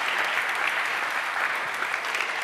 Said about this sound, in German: Einen fetten Applaus.